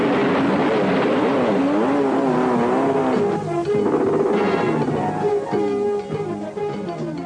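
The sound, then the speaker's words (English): A motorcycle engine revs hard and accelerates, its pitch climbing and dipping in loud, continuous surges with a tire-squeal edge toward the end. No voices. “They show that the bike like fits in the van, and you hit a button and it like a rocket propels the motorcycle out, and there's like a whole montage of him mobbing this thing around in the desert, and it's pretty badass.”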